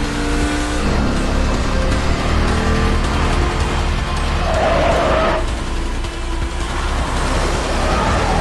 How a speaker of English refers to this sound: The SUV speeds behind the car. Robertson glances over his shoulder. He slams down the gas pedal.